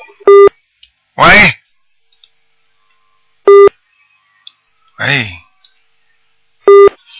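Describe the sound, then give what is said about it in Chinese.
Three short electronic telephone tones sound at regular intervals about three seconds apart, each a brief steady beep on a radio call-in line, with a voice speaking in between them; a listener is calling again while the call is already connected. “喂，这位听众啊，这位听众不要打了，咱已经打通了，两个电话一起打。”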